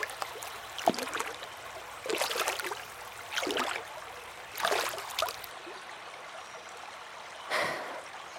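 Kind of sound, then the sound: nature, flowing river water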